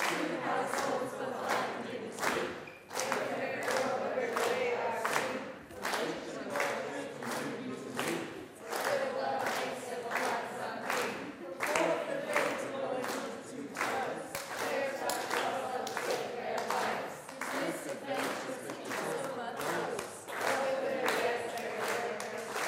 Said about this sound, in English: Keep clapping. Now, I'm going to count you in. You're going to get as far as you can get without my help.